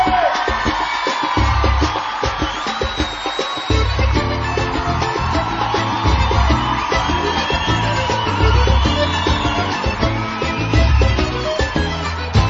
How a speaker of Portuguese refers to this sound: Cadê o grito da mulherada?